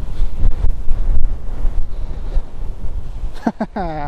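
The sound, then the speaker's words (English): Wind from Storm Gerrit gusts in a loud, continuous low roar, buffeting and rumbling in uneven surges throughout, with a short rising vocal sound breaking through at the very end. “Wow, this is Storm Gerrit, which is one of those storms that has been battering us for the past half a year, which has been no good.”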